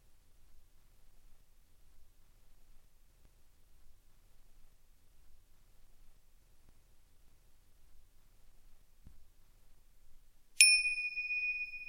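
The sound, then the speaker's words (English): After a long stretch of near silence, a meditation bell is struck once and rings out clearly, its bright shimmering tone sustaining to the end. “Where was your mind when I rang the bell?”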